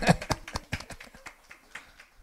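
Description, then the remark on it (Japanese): A short burst of audience applause, a scattering of sharp claps that starts loudest and thins out over about two seconds into a few lighter, irregular claps. “はい、拍手”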